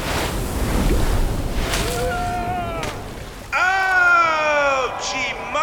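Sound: large ocean wave crashing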